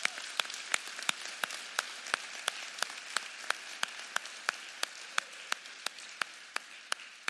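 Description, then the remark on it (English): A church audience applauds in praise of their minister, with a steady rhythmic clap of about three beats per second standing out over a dense wash of scattered clapping, fairly quiet, with no talking. “And so, you know, can we just get a hand clap of praise for your minister,”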